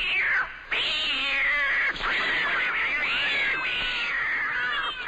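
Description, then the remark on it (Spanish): A kitten meows and yowls loudly, its cries rising and falling in long, drawn-out wails with only a brief break near the start, with no talking. “Cada vez que escuchas Game Over, Dios mata a un gatito.”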